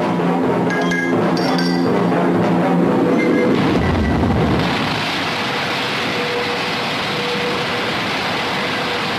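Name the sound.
rocket launch engine roar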